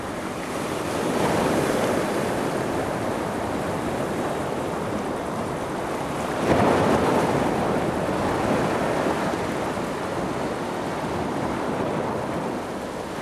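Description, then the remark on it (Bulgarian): Ocean waves crash and wash continuously in a dense, roaring surf, with a fresh surge breaking midway and wind noise blowing over the top; no voices. “Да се върнем на кораба и да видим къде ще ни отнесат океанските вълни.”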